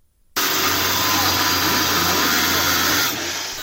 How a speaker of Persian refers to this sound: صدای اره برقی نیروی انتظامی برای ورود به یک محل غیرقانونی استخراج بیت کوین، یکی از انواع رمزارزها.